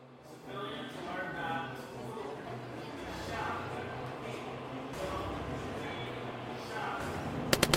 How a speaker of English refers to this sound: Several shots are heard, none of which are directed at SCP-096.